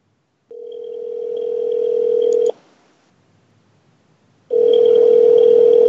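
A steady telephone dialing tone sounds for about two seconds, falls silent for two seconds, then returns loud and clear, as a call is placed during a live radio broadcast to a man who does not answer. No one is speaking.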